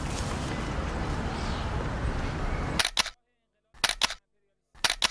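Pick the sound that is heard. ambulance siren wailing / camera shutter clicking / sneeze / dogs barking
camera shutter clicking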